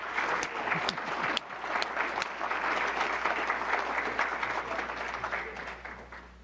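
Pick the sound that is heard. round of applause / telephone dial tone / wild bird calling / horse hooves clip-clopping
round of applause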